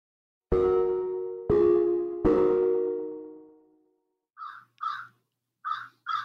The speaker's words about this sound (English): Those are some good bird sounds we have. Yeah. Actually, I've got the window open. We live across from like a farmland, so there's not much here.